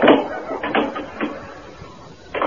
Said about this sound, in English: Let me close the door.